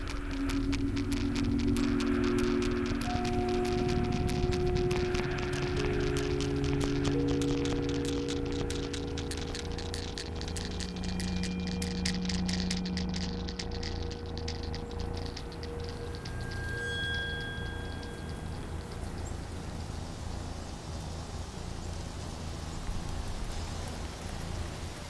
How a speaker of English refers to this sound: I woke up the next morning to the popping sound of heavy raindrops on the tent roof.